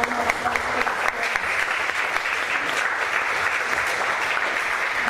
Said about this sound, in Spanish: así que también por favor dense un aplauso a ustedes y nosotros se los damos por todo eso que siempre nos dan.